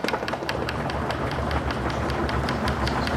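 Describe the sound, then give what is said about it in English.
Many hands knock rapidly and irregularly on wooden desks to thank someone for a lecture in Germany, a dense, steady clatter of sharp taps sustained like applause with no voices. “What's all this banging on the desks about? That's how you thank someone for a lecture in Germany.”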